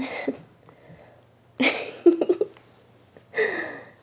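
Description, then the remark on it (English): Several abrupt, breathy hiccups from a nervous person burst out, separated by short pauses, with a quick cluster of small gulping clicks in the middle and quiet moments between them. “I get hiccups when I'm nervous.”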